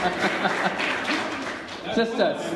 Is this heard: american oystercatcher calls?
no